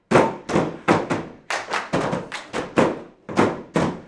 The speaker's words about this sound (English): It's Wednesday night, and the theater company is rehearsing its upcoming production of Go, Dog, Go. Here, actors are playing with brightly colored 5-gallon buckets. Red, green, blue, yellow.